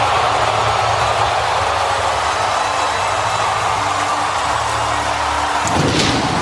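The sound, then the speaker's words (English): The Houston Astros' ballpark train at Union Station rolls steadily along its tracks after a game-ending hit against the Los Angeles Dodgers, a loud, continuous rumble with a low droning hum beneath a wash of broad noise, the low tones dropping away just before the end. “Up on the train tracks. Union Station is starting a party tonight.”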